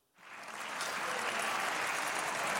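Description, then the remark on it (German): In the German Bundestag, the AfD faction breaks into sustained applause and cheering after a brief silence, after the Union's motion to tighten migration policy wins a majority with AfD votes. A dense, steady wash of clapping swells quickly and holds loud to the end. “Die AfD aber jubelt.”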